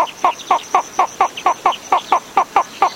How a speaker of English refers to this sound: Now listen to the slender-billed flufftail.